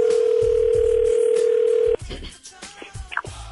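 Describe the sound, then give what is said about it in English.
A steady, loud telephone dial tone hums for about two seconds, then cuts off into clicks, line noise and a short electronic beep as Virgin Radio's The Breakfast Show calls Trish Stratus's home phone number. “We actually have her home phone number. Let's call her.”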